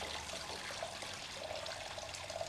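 Water runs steadily from a tap into a sink, a continuous close splashing rush with a faint hollow ringing tone, no voices, just the even flow throughout.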